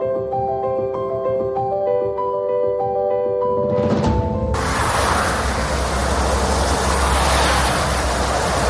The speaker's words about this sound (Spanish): Esta es otra de la banda sonora de estos días. Un coche tras otro en una carretera y así hasta 1,5 millones de vehículos por día en las carreteras españolas.